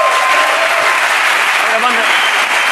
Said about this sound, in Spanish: por lo pronto un aplauso para Jorge Ponte, que está por ahí.